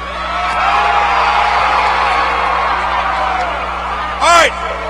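A large DRC crowd, asked to scream, roars and cheers in a sustained, dense wash of noise for several seconds, ending with one loud, sharp whoop cutting through near the end.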